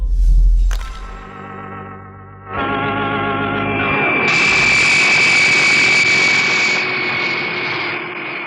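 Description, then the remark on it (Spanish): The engine of a colossal private jet belonging to magnate Miklos Rogasis drones steadily and loudly, a continuous roar with a high turbine whine that swells after a few seconds and holds, like a plane cruising in flight. “A bordo del colosal jet privado del magnate Miklos Rogasis”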